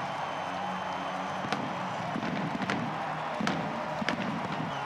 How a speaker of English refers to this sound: They better order out some more fireworks.